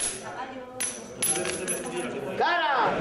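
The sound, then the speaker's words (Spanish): Two coins tossed into the air clink and ring out, a bright metallic chime wobbling as they settle on the ground, in the traditional heads-or-tails betting game of las caras or las chapas in Nava del Rey, Spain, during Holy Week, with a crowd chattering and murmuring throughout. “Así, lanzando dos monedas al aire y confiando a la suerte algún que otro ahorrillo, apuestan a cara o flor los navarreses desde tiempos remotos en el tradicional juego de azar conocido como las caras o las chapas”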